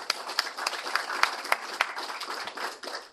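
A crowd applauds steadily, many hands clapping at once in a dense, continuous patter with a few sharper claps standing out, moderately loud and fairly close, with no one speaking over it.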